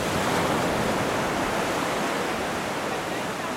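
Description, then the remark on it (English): A steady, full roar of ocean waves crashing on the shore at Saint Louis, a continuous wash of white noise with no pauses or voices, holding loud and even throughout. “He looks out at the crashing waves and says, it could even be tonight.”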